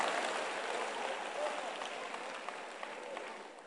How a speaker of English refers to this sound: Clap for the king Xerxes.